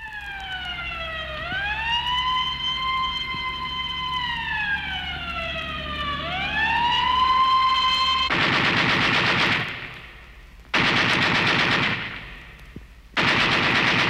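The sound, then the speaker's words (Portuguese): A wailing siren rises and falls, then gives way to three loud, rapid bursts of machine gun fire separated by brief pauses. “E quando um tiro de metralha fez um rombo no caixão, o contrabando pelas ruas escorreu.”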